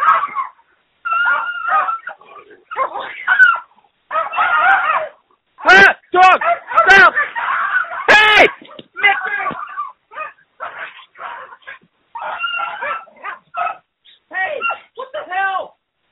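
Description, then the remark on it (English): Two dogs fighting over a bone, a loud, frantic tangle of snarls, yelps and sharp barks that peaks in a burst of harsh cries midway, with excited human voices shouting over the commotion. “You probably just heard a giant fight and screaming. That was two dogs just going at it like there's no tomorrow over a bone.”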